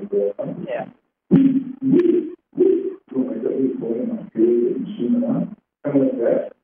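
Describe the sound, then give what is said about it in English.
A voice imitates an owl's hooting call with a string of low, breathy hoots in uneven bursts, fairly loud, separated by short pauses. “We know a lot of the owls around and the different kind of owls”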